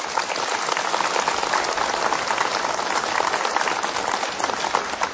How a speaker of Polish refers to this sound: A zatem siebie nawzajem, także gorącymi oklaskami przywitajcie.